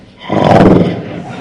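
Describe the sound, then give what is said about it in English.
A person growls out a single loud, rough imitation of a tiger roar, rising quickly and holding for about a second before easing off slightly. “But then the tiger confronts them.”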